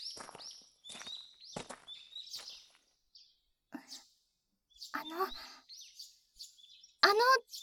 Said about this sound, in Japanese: ほら、鳥さんたちもお兄さんとの別れを惜しんでいるようですよ。